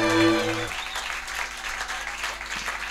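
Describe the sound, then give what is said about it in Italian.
A held musical chord cuts off after a moment, giving way to dense, steady applause from a concert crowd for the band's orchestra conductor, many hands clapping together at a fairly loud, even level until the end. “un applauso.”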